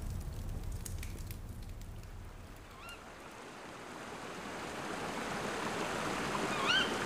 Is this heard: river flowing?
yes